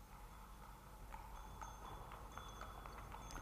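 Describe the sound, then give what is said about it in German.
A small brown horse pulling a light, heavily loaded cart trots up a street in a steady clip-clop rhythm, fairly quiet, over a low background rumble with no voices. “Da kam es dort die Straße heraufgetrabt.”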